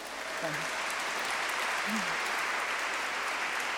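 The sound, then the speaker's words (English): Audience applause for a colloquium on the asylum and the prison organized by Professor Bernard Harcourt fills the whole clip: a steady, dense wash of clapping at an even level, with a brief low voice murmuring faintly underneath near the start. “me say parenthetically that I had the opportunity this morning to attend a part of a very exciting colloquium on the asylum and the prison that was organized by Professor Bernard Harcourt in the Political Science Department, and we can all applaud.”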